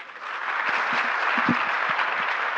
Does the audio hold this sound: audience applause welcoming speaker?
yes